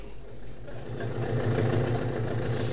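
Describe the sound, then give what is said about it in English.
A car engine runs steadily with a low, throbbing hum that swells slightly louder partway through, a continuous mechanical drone with no voices. “Well, vacation time's almost here, and everybody will be taking trips in their car.”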